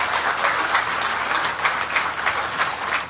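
A crowd applauds steadily for about three seconds, a dense, even patter of many hands clapping at once with no voices over it.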